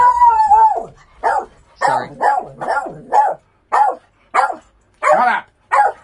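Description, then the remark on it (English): A dog lets out a drawn-out howl, then a string of about nine sharp, yelping barks in a fairly steady rhythm, loud, with no talking over it. “Right, I'm just going to have to kill the dog.”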